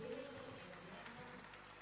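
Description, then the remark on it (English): A church audience in Anambra State claps their hands together for Jesus after a prayer, in a steady, dense patter of many overlapping claps that holds at an even level throughout, with a faint tonal hum underneath at the start. “That's the way Anambra State claps.”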